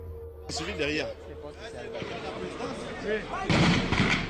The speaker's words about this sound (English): On the morning of January 7th, 2019, gunshots can be heard outside the national radio station.